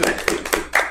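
Four sharp hand claps in a steady, even rhythm, fairly loud, with no talking over them.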